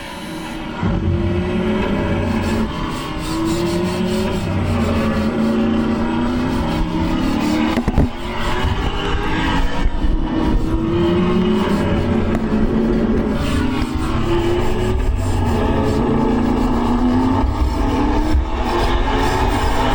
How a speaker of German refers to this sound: Der Sauber Mercedes C9, die Rückkehr der Silberpfeile auf die Rennpiste von Le Mans. Beim 24-Stunden-Rennen siegt das Team Maas Reuter Dickens.